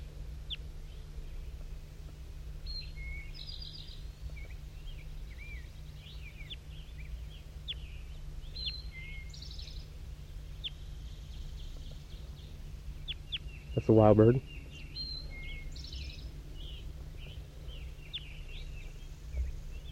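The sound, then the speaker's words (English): Wild birds call through the whole clip: scattered high, faint chirps and trills, then one louder, rasping call near the end, all over a steady low hum. “That was wild again. Wild bird.”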